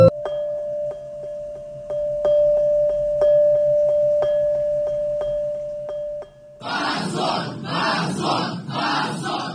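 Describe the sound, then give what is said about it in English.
A steady electronic tone with regular ticking gives way abruptly to a loud courtroom crowd shouting in protest at a seven-year prison sentence, voices rising together in a rhythmic, repeated chant of "Shame on you" for the last few seconds. “Immediately, everybody started shouting. Shame on you. Shame on you.”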